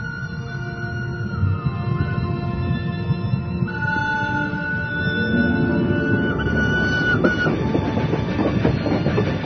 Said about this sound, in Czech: Približavao sam se železničkoj stanici i shvatio sam da je taj zvuk lokomotive bio znak sudbine.